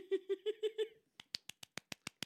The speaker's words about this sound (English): Thank you. That's me clapping. We should get a sound effect. Nah, that's a good enough sound effect.